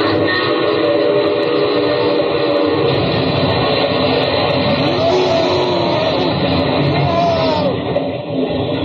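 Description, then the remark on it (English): A loud, continuous roar of a train and a car colliding, with grinding, clattering noise and a wailing horn-like tone running through nearly nine seconds, no voices. “That's about the noisiest crash it's ever been on radio.”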